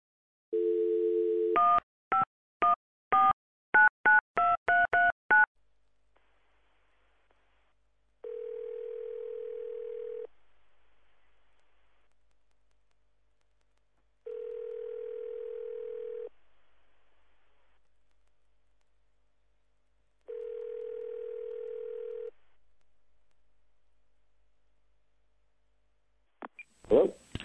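A steady dial tone gives way to a quick run of touch-tone keypad beeps, then three evenly spaced ringback tones pulse on the line before a brief click as someone picks up, on a call to a student of Online Profits University.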